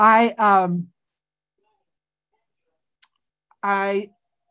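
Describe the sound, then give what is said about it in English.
A small, sharp click from a phone's silent switch, heard once in a quiet pause, with a second fainter tick after it. Brief voiced sounds come before and after. “One of my sponsees is calling me, and she's going to call me on my phone, so I better turn it on silent.”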